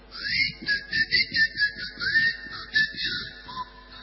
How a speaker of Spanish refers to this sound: Le silba cuando le pone comida, como el perro de Pavlov.